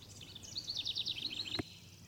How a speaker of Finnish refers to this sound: Yksi kerrallaan linnut alkoivat taas laulaa.